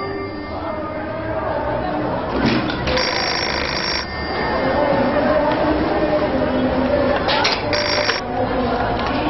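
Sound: telephone ringing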